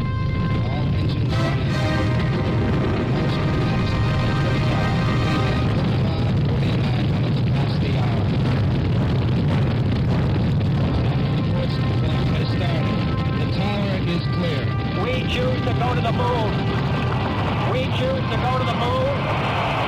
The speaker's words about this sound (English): Guidance internal. 15, 14, 13, 12, 11, 10, 9. We have ignition sequence start. Engines on. 5, 4, 3, 2.